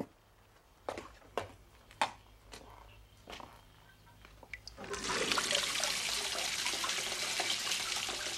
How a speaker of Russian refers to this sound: Кажется, он открыл воду. Зачем?